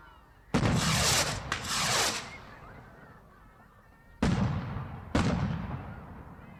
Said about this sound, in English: Bells and whistles go off. Fireworks too, which Eddie hates and winces for.